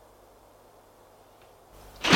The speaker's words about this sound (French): La porte s'est ouverte.